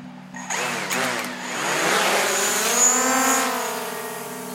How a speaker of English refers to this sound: There it goes. We launch the drone out over the gulf and then double back toward the port, making sure to keep a legal flight path.